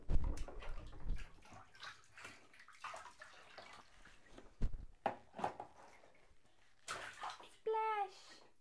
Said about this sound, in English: Happy Froggy. Splash!